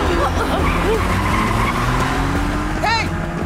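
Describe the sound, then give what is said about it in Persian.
A car engine roars steadily while tires screech and skid, with a sharp squeal rising near the end, loud, as a vehicle is driven hard and erratically by a driver trying to crash into people. “نه این ماشین اون نیست. این روانی چی کار بابازه باشه؟”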